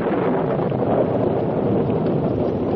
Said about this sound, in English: The heavens seemed to open, lightning flashed, and thunder cracked and rolled through the valley near the Overland Trail.